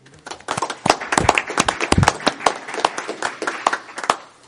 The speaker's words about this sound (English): So if you would all please give Mr. Fox an applause, because he's not here to receive it, but we want him to know that we greatly appreciate all those years of dedicated service.